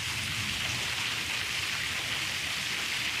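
Heavy, steady rain pours down during a thunderstorm as the rain picks up again, a dense hiss of drops drumming on surfaces that holds at a constant level throughout, with no voices.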